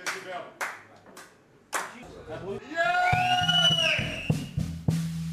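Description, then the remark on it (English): A few scattered handclaps from an audience applauding dancers and strippers ring out in the opening seconds, then a voice talks over a low hum, with a couple more claps near the end. “applaudir les danseuses, les stripteaseuses, les mateurs devant nous.”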